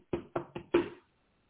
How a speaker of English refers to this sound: Stand at the door and knock.